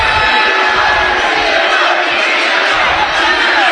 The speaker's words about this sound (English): Jump ball or a foul? The referees don't even know. They're talking about it. Crowd's getting into it now.